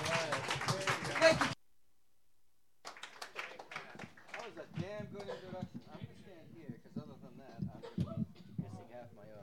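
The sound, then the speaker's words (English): A short burst of audience applause welcoming a music producer introduced to perform, many hands clapping densely and fairly loudly, cuts off after a second or so; after a brief silence, someone starts talking. “So let's have a rousing round of applause, for he will accept no less,”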